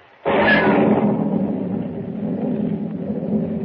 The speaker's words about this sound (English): Lightning cleaves the black sky and thunder crashes as Pug, unable to swim, drops like a plummet into the raging, storm-swept sea.